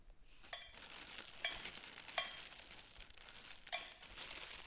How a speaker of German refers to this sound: Plötzlich fängt es an zu regnen und ein erstes Grollen ist zu hören. Der Regen wird stärker.